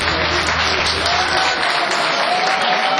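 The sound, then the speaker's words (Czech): A large audience claps steadily and loudly, a dense, continuous wash of many hands with faint crowd murmur mixed in, holding at an even level for a few seconds. “Tleskejte pořádně, prosím vás.”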